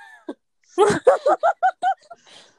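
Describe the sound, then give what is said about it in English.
A voice imitates a startled gasp: a short catch of breath, then a quick run of about six breathy, voiced gulps in steady rhythm, fairly loud, trailing off into a faint exhale. “Oh gosh, maybe just start doing that in Dead by Daylight more often. Just gasp.”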